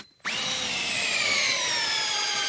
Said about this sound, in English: He drills into a bale to get samples to test for nitrates. He wants to make sure there aren't any harmful contaminants from farm fertilizers.